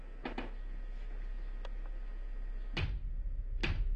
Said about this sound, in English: Something's going on. Maybe it is. Do the knocking game you showed me, remember?